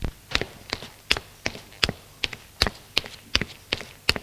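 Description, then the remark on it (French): Footsteps of two people climbing wooden stairs to the first floor of a house: about a dozen steady, hard-soled steps in an even rhythm, fairly crisp, with no voices. “Elles montent toutes les deux au premier étage.”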